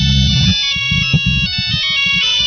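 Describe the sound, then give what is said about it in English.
A phone ringtone plays La Cucaracha as a bright, melodic tune with a steady rhythmic accompaniment, fairly loud and continuous throughout, with no voices over it. “La Cucaracha's good. La Cucaracha. Yeah, I have that one too, but mine's a different arrangement.”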